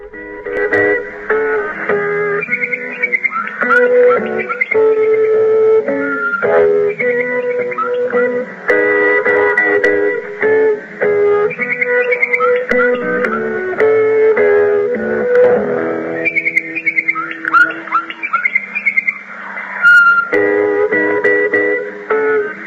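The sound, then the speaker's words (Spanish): A looping interval signal of a historic South African radio station: bright, whistled calls of the bokmakierie, a bird typical of the Johannesburg region, repeat over a steady melodic tone bed, holding an even, fairly loud level throughout with no voices. “Estábamos escuchando la señal de intervalo y esos pájaros deben ser, claro, un pájaro típico de la zona, ¿no?”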